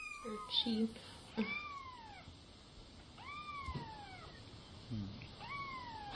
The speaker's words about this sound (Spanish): On va faire écouter un chat miaulé, et si vous pouvez nous dire qu'est-ce qu'il est en train de dire le chat en ce moment.